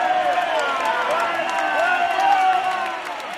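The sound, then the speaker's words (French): A large crowd of protesters at a demonstration shouts "dehors" together at police officers who have moved closer, a loud, sustained roar of overlapping voices, the chant rising and falling without pause across the whole moment. “Deux quarts de police qui sont rapprochés de la manif et tout le monde crie dehors, dehors.”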